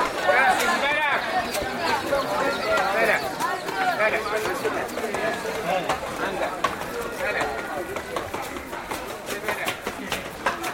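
A busy, crowded alleyway in Old Fez (Fez el Bali), an ancient walled city: many people chatter at once while donkey hooves clip-clop on stone through the steady hubbub, with occasional sharp knocks and footsteps.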